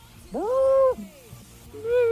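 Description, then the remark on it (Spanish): Asked to make an animal sound, a person imitates a dying monkey with a strained, wavering wail that rises, holds, then sags away, followed by the start of a second cry. Fairly loud. “Bueno, que eso, que es un mono muriéndose.”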